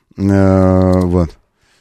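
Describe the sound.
A voice imitates a bicycle riding up: one loud, sustained humming tone of about a second at a steady pitch, sliding down slightly before cutting off, followed by a faint breathy trace.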